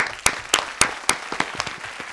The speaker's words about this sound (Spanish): Sí, nuestros amigos de Sadival. Un aplauso. Está muy bien. Un aplauso, por favor.